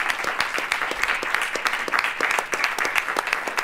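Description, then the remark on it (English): Steady applause from a group of people at a cabinet meeting, many overlapping claps forming a dense, even patter that holds at a moderate level for several seconds with no voices standing out. “Now there's applause in the cabinet meeting.”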